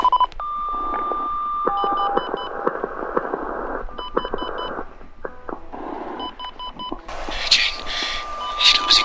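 A steady phone tone gives way to short clusters of keypad dialing beeps, repeating every couple of seconds over a hissy, crackling background that swells louder toward the end.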